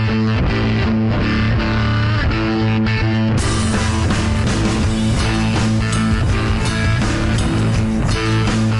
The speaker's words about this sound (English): It sounds suspiciously like rock and roll.